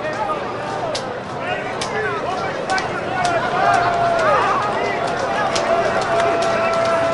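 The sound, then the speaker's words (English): A stadium crowd at a baseball game keeps up a slow, steady clap as Lansing leads Cedar Rapids 6-2 and Cedar Rapids is down to its last strike: sharp unison claps spaced roughly under a second apart over a constant murmur of crowd noise and scattered voices. “There's a slow clap afoot.”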